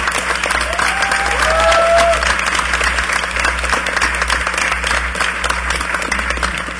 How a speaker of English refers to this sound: And I know I always do this, but can you give a round of applause to all the volunteers, all the security, the AV?